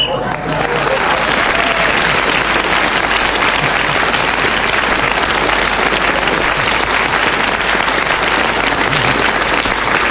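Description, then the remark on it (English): A studio audience breaks into sustained, steady applause for Clement Freud, a dense wash of many hands clapping at an even loudness for about ten seconds with no pauses. “I don't know why you're clapping that, but Clement Freud kept going till the whistle went and has increased his lead even further.”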